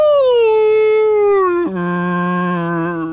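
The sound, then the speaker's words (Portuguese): A single voice imitates whale song with a long, loud, mournful moan that slowly glides downward, then abruptly drops to a lower pitch and holds steady until the end. “Podiam pôr som de baleias, tipo...”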